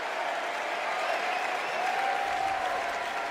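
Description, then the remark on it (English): A large crowd at the Democratic National Convention in Chicago applauds steadily as Senator Tammy Duckworth of Illinois takes the stage, a dense, continuous wash of clapping with faint cheering mixed in, holding at an even, fairly loud level throughout. “Senator Tammy Duckworth from Illinois takes the stage at the DNC in Chicago. And the crowd loving on her.”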